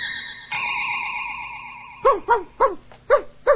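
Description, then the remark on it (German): A small dog lets out a long, high whimpering whine, then yaps five times in quick, sharp bursts, fairly loud with no one talking. “Papi sei ein kleiner Hund.”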